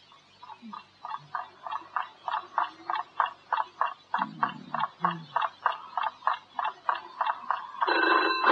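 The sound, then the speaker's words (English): A telephone rings steadily at 3 o'clock in the morning, its bright trilling bursts repeating in quick, even pulses for several seconds, clear with no one speaking. “All right, it's a phone.”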